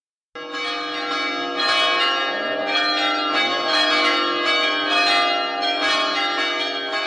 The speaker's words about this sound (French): Les cloches résonnaient alors que le curé terminait la messe.